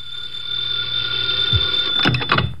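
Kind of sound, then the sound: household object, telephone ringing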